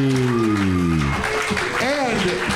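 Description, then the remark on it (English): A crowd applauds loudly and steadily for a singing contestant after his scored performance, with a dense wash of clapping throughout. Voices cheer and whoop over it, including a long drawn-out shout at the start. “Clap it up one more time”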